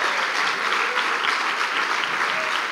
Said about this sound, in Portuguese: Dê salva de palmas ao Senhor. Glória a Deus.